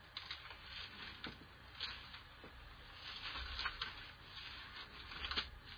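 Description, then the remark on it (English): Thin Bible pages being flipped and rustled as people turn to Mark chapter 13, a series of soft crinkly swishes and brief crisp flicks at an irregular pace, fairly quiet with a low steady hum underneath and no talking. “Boy, I love them pages turning.”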